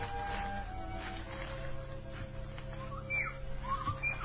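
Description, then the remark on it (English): A few short, high whistled bird-like calls, one near the start and a rising pair toward the end, sound faintly over a steady low rumble of background noise. “There's that bird again.”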